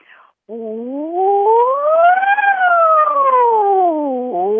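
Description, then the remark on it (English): A single voice imitates a fire siren, one long loud wail that glides steadily up in pitch, peaks midway, then slides back down, with a faintly cat-like, meowing tone. “Just like a fire siren.”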